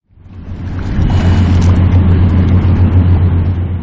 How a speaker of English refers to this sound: The sound of an Ohio River barge in Pittsburgh, where the Allegheny and Monongahela rivers converged to form the Ohio, underscores the commercial and industrial role of the Ohio and its navigable tributaries